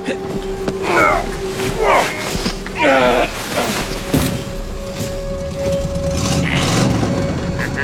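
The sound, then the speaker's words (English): An ancient car's engine, a contraption of tarnished brass and mildewed leather with a blood-coloured bonnet and a sun-bleached crocodile skull on the radiator, chugs and rattles under a steady drone, with three loud snorting, wheezing bursts early on that sound almost like a horse, then a rough continuous rumble. “An ancient car, more animal than machine, snorting like a horse.”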